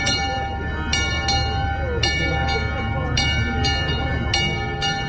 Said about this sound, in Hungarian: és akkor én ezt felajánlottam, az, hogy ezt tegyük fel erre a kis székelykapura emlékműre, és ezt húzzuk meg ma is a trianoni aláírás órájában, vagy momentumában, amelyre mindannyian fájdalomban emlékezünk. Most szólal meg ez a kis harang.